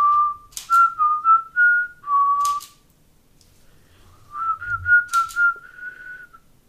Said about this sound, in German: Du pfeifst so schön und ich also. Höre dir einfach gerne zu.